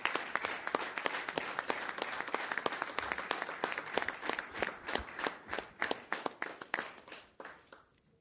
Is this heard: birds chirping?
no